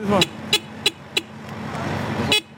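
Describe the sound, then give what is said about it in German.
Busy street traffic in the Midtown business district of Manhattan, with a steady low rumble of engines, punctuated by several short car horn honks in quick succession and a final longer toot. “Ein Manhattan Rider, ausgerüstet für den Kampf gegen die Zeit und den Verkehr des Geschäftsviertels Midtown.”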